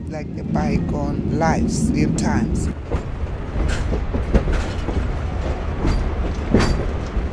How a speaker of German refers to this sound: Als der Zug durch die Karoo fährt, einer hügeligen und kargen Halbwüste,